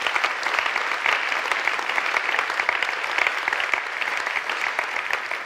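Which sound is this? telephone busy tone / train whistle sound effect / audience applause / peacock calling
audience applause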